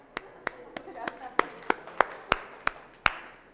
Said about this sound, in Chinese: 来到才有这么轻松的，我鼓掌。